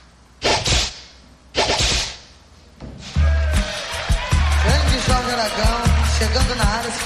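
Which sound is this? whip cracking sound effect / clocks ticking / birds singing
whip cracking sound effect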